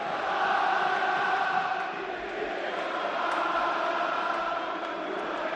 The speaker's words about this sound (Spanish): Bueno, pues ya tenemos rumba aquí en Mestalla con el 1-2 de la Unión Deportiva Las Palmas. Sigue cantando Mestalla.